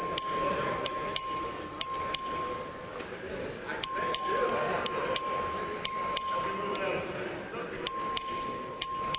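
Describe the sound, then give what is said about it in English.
A voting bell, rung by the clerk for a record vote on House Bill 3516, rings loudly in repeated sharp, metallic bursts with a sustained tone, pausing briefly and starting again, over a low murmur of background chatter. “The clerk will ring the bell.”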